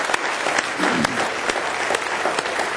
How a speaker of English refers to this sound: Somebody say praise the Lord. Well, give him another good hand clap of praise if you love him this morning.